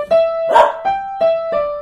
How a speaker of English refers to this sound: And you can leave the barking out. We don't need to add that in.